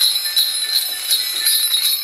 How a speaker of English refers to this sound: it's the widget that thingy-me-bobs, the what's-its-name on the, what do you call it, that makes the sleigh bells ring.